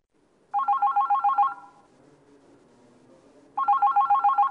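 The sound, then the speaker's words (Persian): A phone rings for a listener's call to a question-and-answer program, with a rapid warbling electronic trill, two loud bursts about three seconds apart separated by a quiet pause, with no voices. “دوست شنونده‌ای تماس گرفتن با برنامه پرسش و پاسخ و مطالبی رو فرمودن که شاید انتقاد به برنامه ما باشه”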